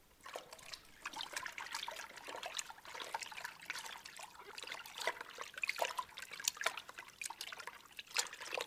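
Continuous splashing and sloshing water, with many small bursts of spray as people plunge into the Silver Lake (Silberner See) at dawn to swim, steady throughout with no voices.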